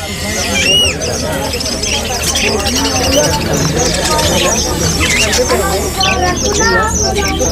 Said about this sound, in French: Il y a des oiseaux. Des cages, des filets, des pigeons. Ah, c'est beau ça, regarde les cages.